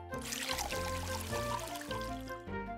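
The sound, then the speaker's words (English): Water pours in a steady, bubbling trickle for a few seconds, fairly clear, with soft sustained music tones running underneath. “He puts the water on the green monkey.”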